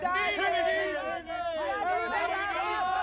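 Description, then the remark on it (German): A crowd of many voices shouts and yells at once, a dense, loud, unbroken clamour of overlapping cries that keeps up steadily for about three seconds. “Ich kann das Geschrei nicht anhören.”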